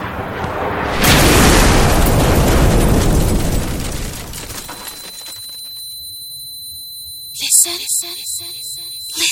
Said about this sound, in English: Listen. Did you hear the sound of explosion? Whose home was destroyed?